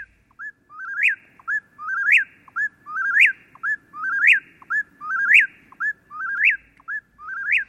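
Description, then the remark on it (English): An Eastern Whip-poor-will, recorded in Massachusetts, sings its three-part whistled phrase over and over in a steady rhythm, loud, with a faint low hum of night background beneath. “this is the Eastern Whippoorwill, recorded in Massachusetts”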